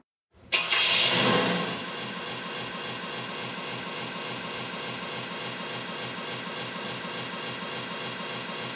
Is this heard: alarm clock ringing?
no